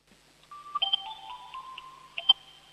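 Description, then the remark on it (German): An electronic doorbell at a home in Upper Austria rings out a melodic chime of sustained, steady tones, marked by a few brighter accents near the start and a sharp blip near the end, with no voices. “Das ist ja eine coole Türklingel.”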